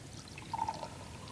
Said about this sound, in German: Liebe Geschwister, das hier ist ein leeres Gefäß. Und in dieses leere Gefäß füllen wir jetzt Wasser.